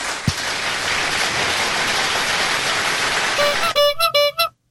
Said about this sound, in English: Applause and a horn.